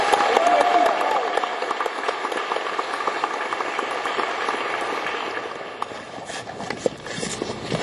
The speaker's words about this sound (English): Give her all these honorees with a nice round of applause.